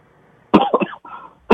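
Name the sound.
cough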